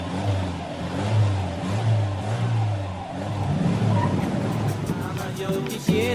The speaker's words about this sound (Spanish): Vamos, que el carro ya se va.